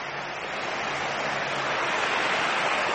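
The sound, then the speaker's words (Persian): Steady, loud rush of the city sewage of Bandar Abbas pouring into a canal that carries it to the sea, a dense continuous roar like a small waterfall, unchanging for the whole stretch with no voices. “این فاضلاب شهر بندرعباسه که داره توی این کانال ریخته میشه و از طریق این کانال هم میره به سمت دریا.”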